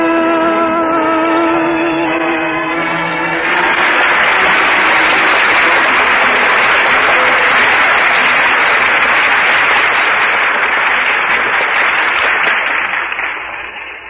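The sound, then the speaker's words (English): A sustained song note ends and gives way to loud, dense audience applause, a steady wash of clapping that carries on for about ten seconds before starting to fade. “Listen, they're still applauding.”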